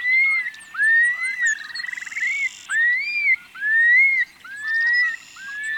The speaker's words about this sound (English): Every spring, in the grasslands that remain in the Great Basin and Great Plains, you may be treated to the flight display of the long-billed curlew, accompanied by its bubbling song. The male flies up with rapidly beating wings and glides down